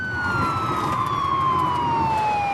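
A loud police siren from a police car following behind a car wails steadily, its tone sliding slowly downward over a constant rumble of road and engine noise, with no voices.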